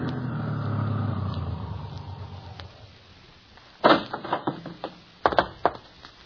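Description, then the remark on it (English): A police car's engine rumbles and winds down as it pulls up and stops in the town of Smithville, followed after a pause by a few sharp clunks and knocks. “And there's the police car.”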